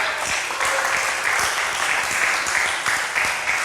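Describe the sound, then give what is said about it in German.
Steady audience applause for the second presentation, many hands clapping in a dense, even patter that holds at a fairly loud level throughout, with no voices over it. “Bitte gebt uns jetzt den Applaus für die zweite Präsentation.”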